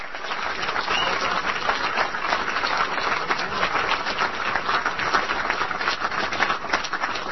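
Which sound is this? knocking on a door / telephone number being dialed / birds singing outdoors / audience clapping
audience clapping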